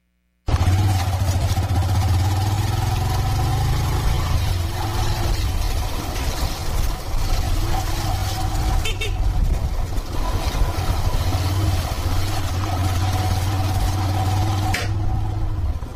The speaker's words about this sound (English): It takes me approximately 25 minutes on a public motorbike, locally known as Boda Boda, from where I stay to Junda in Kisauni constituency.